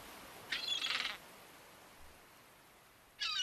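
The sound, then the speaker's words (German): Seagulls flying overhead during a boat trip through Milford Sound cry out in two bursts of shrill, harmonic calls, the first lasting about half a second and a second one starting near the end, over a quiet, faint background. “Auf deiner Fahrt durch den Milford Sound entdeckst du ganz viele Wasserfälle, Möwen, die über dir drüber fliegen.”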